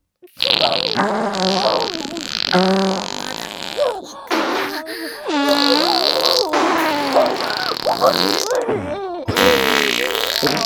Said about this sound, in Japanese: やば、おなら出そう。